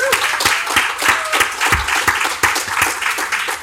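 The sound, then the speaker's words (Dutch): An audience applauds steadily, many hands clapping in a dense, even patter that stays fairly loud throughout, with no voices rising above it. “Mag ik applaus”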